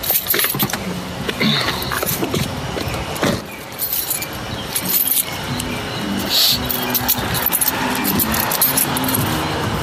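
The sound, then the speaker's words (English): Keys jangle fairly loud in repeated metallic bursts across the whole stretch, over a low background rumble, at the opening of the first track of a music record. No one speaks. “So did you have to practice the sniffle, the keys dangling, and the little cough, or is it all organic?”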